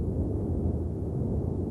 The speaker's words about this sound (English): This one's sucking the trees right out of the ground as if they're blades of grass. Most people have never seen anything like this. A tornado sounds like a freight train, and you've got to get out of the way.